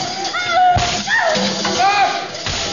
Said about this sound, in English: Yes, a fine cure. The whip will cure her. The whip will make her stop dancing. No, not the whip. The whip, Baron, the whip. Aim at her feet.